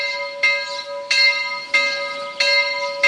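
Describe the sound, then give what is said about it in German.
A single church bell of the branch church in Mödendorf, parish of Pörtschach am Berg, Carinthia, tolls steadily at noon, four strikes roughly every 0.65 seconds, each with a bright metallic attack and sustained ringing overtones that carry between strokes. No voices. “Sie hören die Glocke der Filialkirche Mödendorf, der Pfarre Pörtschach am Berg in Kärnten.”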